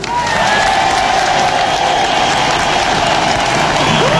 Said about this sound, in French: Je vous propose de nous applaudir.